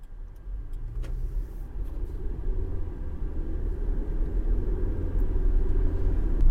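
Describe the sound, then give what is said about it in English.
Steady low rumble inside a car driving to work on the Sunshine Coast, Australia, a continuous engine and road drone that slowly swells louder over several seconds, with no voices present. “I'm driving and I'm talking to you at the same time.”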